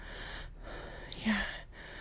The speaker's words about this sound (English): No, I'm just breathing because I'm. No, I'm just. I'm.